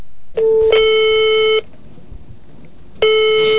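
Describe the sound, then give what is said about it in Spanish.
Electronic telephone line tones during a phone call: a steady harmonic beep lasting over a second, a pause with faint background hiss, then the tone starting again loud, like a ringback or call-connecting signal. “Tras mi exilio, yo estaba cumpliendo un trabajo en Francia, por regresar a Montevideo, y nos saludamos por teléfono antes de que ella se fuera al aeropuerto, cerrando su primer gira al Viejo Mundo y regresando a Buenos Aires.”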